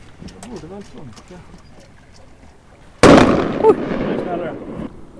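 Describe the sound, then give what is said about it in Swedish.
A single loud starting-gun shot booms out after a stretch of conversation. It is the preparatory warning shot fired five minutes before the first start of a sailing race, with eight boats circling at night under the moon. The blast trails into a long, rumbling echo that fades over a couple of seconds. “Var det varningsskottet det där? Precis, lite förberedelseskott. 5 minuter innan första start.”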